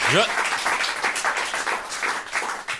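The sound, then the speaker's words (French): An audience claps steadily for a few seconds, a dense wash of many hands, with a brief rising voice or whoop at the very start. “Applaudissez.”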